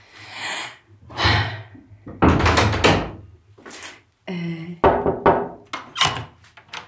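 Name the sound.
door being opened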